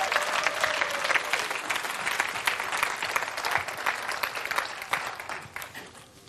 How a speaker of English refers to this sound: Do you want to give my lovely volunteers a round of applause? And you can go and sit that down.